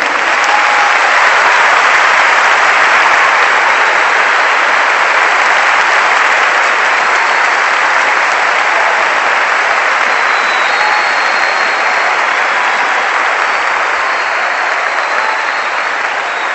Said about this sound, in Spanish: Ahora sí, tenemos que lograrlo. Hay que lograr aplauso sin chillido, sin grito, sin silbido.